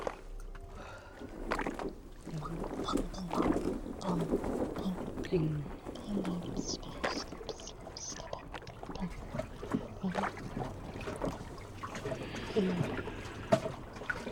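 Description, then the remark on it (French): Steady water sloshing and lapping against the hull of a white sailboat, a continuous rolling wash with small irregular splashes resonating through the boat, heard close up with an ear pressed against the hull, with faint voices murmuring in the background. “J'entends un clapotis incessant, un son qui roule et résonne dans tout le bateau tambour.”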